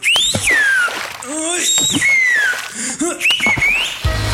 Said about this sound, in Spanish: Solo puje con fuerza y su llavero chiflará automáticamente al primer ruidito. Escuche este ejemplo.